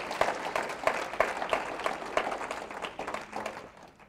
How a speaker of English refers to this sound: So let's give the Heavenly Father a nice hand clap this morning.